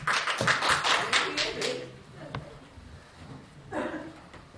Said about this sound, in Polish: Chyba po raz pierwszy otrzymaliśmy oklaski za uchwałę.